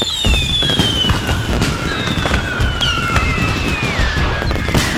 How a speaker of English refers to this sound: Fireworks from the Iowa Fireworks Farm